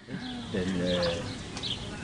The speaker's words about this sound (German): Die Vögel zwitschern, die Luft riecht frisch.